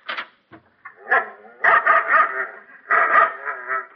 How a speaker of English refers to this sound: Sorry, Rover, you can't have Cougat. See, my dog. Oh, poor little dog. He looked so disappointed when he found out he couldn't get Cougat.